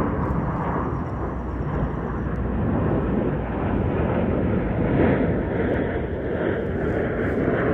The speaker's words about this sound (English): Oh my God, it's an airplane.